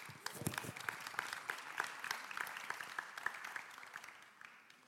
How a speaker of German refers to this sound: Vielen Dank nochmal an das Team, das uns mit reingenommen hat. Ich denke, es ist immer wieder wirklich ein Privileg. Ich könnte mal gerne auch einen Applaus geben.